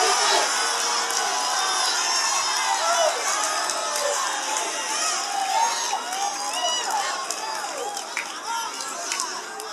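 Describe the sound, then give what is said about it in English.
A church audience shouts praise to God and cheers together, a dense, sustained roar of many overlapping voices with scattered whoops, loud and continuous throughout. “Well, go ahead and shout right now. Shout, shout like y'all.”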